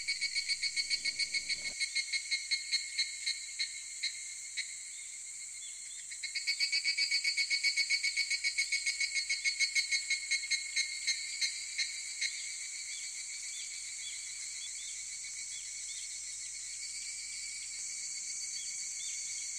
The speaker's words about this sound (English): The sizzling of the cicadas bores into the rock.